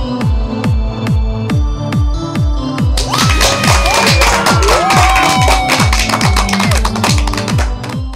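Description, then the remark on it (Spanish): Cheering and applause from a crowd over a steady, thumping low beat, with sharp rhythmic claps growing busier and louder halfway through. No one speaks. “Con esa energía positiva y esos aplausos, damos inicio a este episodio número 96 del programa Te Invito a un Café.”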